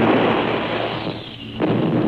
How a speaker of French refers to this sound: Les Anglais bombardent Stuttgart. Enfin, c'est leur tour. Ils ne l'ont pas volé.